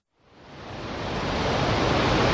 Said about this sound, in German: Wahnsinn! Absoluter Wahnsinn! Was für Wassermasse! Was für ein Naturschauspiel hier!